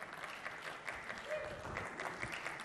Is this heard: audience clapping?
yes